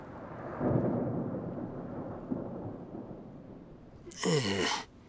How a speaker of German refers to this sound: Ein Donner ertönt.